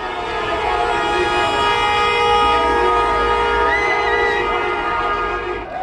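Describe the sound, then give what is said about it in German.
A loud, dense chorus of car horns blares continuously as people drive through the streets of several Swiss cities celebrating Kosovo's independence, many overlapping long honks merging into one sustained wall of sound for several seconds, with no voices heard. “Hupend zogen die Menschen mit ihren Autos durch die Straßen mehrerer Schweizer Städte, die meisten mit roten Fahnen mit dem schwarzen Doppeladler im Schlepptau.”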